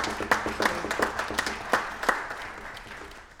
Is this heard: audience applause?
yes